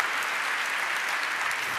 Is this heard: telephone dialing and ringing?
no